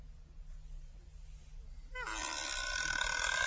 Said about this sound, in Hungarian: Ajtó meg nyikorog.